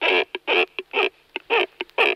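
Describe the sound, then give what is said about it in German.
A cormorant gives a series of harsh, raspy calls, about five longer croaks with short clicking notes in between, loud with no other sounds. “Das ist ein Kormoran.”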